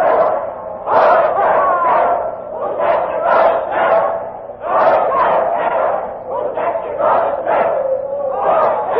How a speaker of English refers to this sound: And now the crowd is chanting a doggerel. Poor Jack Ketch, whose neck you're going to stretch. Listen to them for a minute.